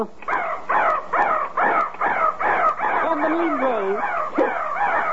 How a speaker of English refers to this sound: I wish it was 3 o'clock. Because at 3 o'clock, that little crow pops out of the crow's nest and caws 3 times. I'd like to hear that.